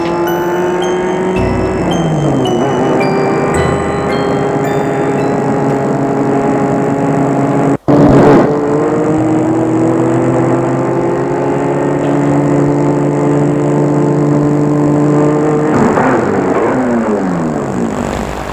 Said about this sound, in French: C'est sa voiture devant chez elle.